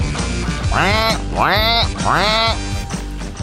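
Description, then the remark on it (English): A person imitates a duck with three loud, nasal quacks in a row, each one rising and falling in pitch, with no other sounds around them. “No, that wasn't the penguin in Batman. Oh, I can do the penguin in Batman. That was a duck.”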